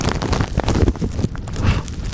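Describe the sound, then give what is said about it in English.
Rough, blustery wind buffets a microphone outdoors while a lot of snow falls, producing a steady low rumble with irregular gusty thumps and crackling noise throughout, loud, with no clear voices. “Sorry, this is probably terribly noisy in the mics because it's windy and there's a lot of snow coming down.”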